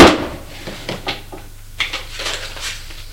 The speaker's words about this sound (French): Il essaye les clés pour ouvrir un tiroir. Le tiroir s'ouvre.